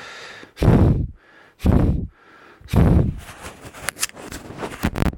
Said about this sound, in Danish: Altså, det her det er de indbyggede mikrofoner. Jeg puster lidt.